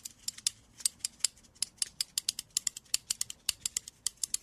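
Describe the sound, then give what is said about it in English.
A musician plays a pair of scissors as an improvised instrument, snipping rapidly over and over, a steady run of crisp, sharp metallic clicks, fairly quiet, with no talking. “A pair of scissors.”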